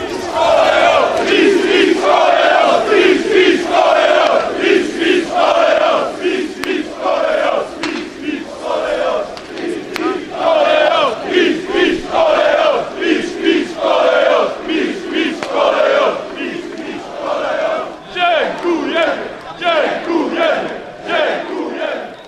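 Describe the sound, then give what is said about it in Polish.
A crowd of more than 2,000 football fans gathered outside the stadium on Bułgarska Street chants in unison, celebrating the team's success: rhythmic repeated phrases with steady pulsing beats, loud and sustained throughout with occasional shouts rising above the collective singing. “Przy Bułgarskiej można było odkorkować szampany i cieszyć się z sukcesu razem z kibicami, którzy w ponad 2000 grupie przybyli pod stadion.”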